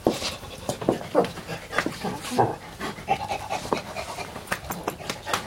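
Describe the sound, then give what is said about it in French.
A dog pants rapidly and steadily, quick rhythmic breaths repeating throughout with a few soft whimpery catches mixed in. “Il m'intéresse pas, ce chien.”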